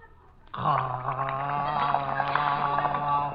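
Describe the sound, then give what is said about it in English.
A steady, bubbling gargle of water in the mouth, rinsing at the dentist's, starts abruptly and holds for about three seconds, a loud throaty rattle with a low voiced hum underneath. “Now, wash out your mouth.”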